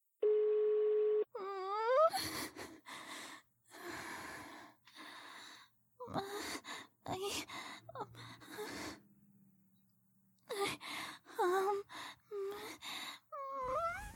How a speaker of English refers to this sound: The owner of this phone is not available to take your call. Please leave your message after the tone.